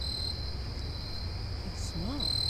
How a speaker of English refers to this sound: See this cricket here? Head downward, long antennae? I think so. That's one of the, I think, of a bush cricket.